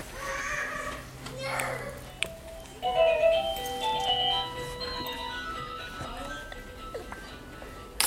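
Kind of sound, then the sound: signal or alarm, doorbell ringing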